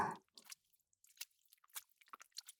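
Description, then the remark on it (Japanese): Wet, sticky squelching of lotion, close to the ear, in quick irregular bursts of squishing and smacking, fairly quiet with brief gaps between them and no voices. “ローションのぐちゅぐちゅっていやらしい音と、私の吐息が、声が、耳の中を貸して、とっても気持ちいい。”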